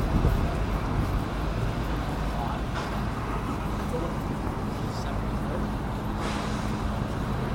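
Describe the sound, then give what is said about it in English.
Steady city street ambience outdoors outside the Union Rooms pub on Westgate Road in Newcastle, where locals are drinking, on a Friday morning in May 2014: a constant low rumble of traffic with a murmur of indistinct voices and a few brief sharper sounds rising over the background. “Here's a couple of Geordies drinking outside the Union Room, outside the Union Room's pub.”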